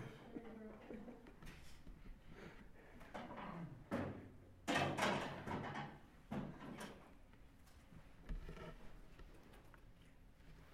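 A broken chair is shifted, dragged around and swapped for another, with several scraping bursts, creaks and hollow clunks at uneven intervals, the loudest cluster in the middle, over a low murmur.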